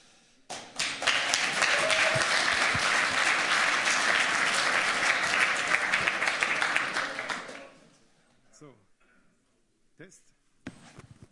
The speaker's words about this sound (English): And I think this is a very interesting topic, and now give them a warm applause.